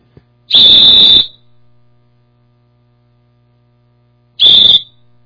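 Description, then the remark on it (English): A whistle is blown twice, loudly: a shrill, steady blast of nearly a second, then a pause of a few seconds before a second, shorter blast. A faint low hum runs underneath. “Well, I brought another whistle here. Let me blow it a minute.”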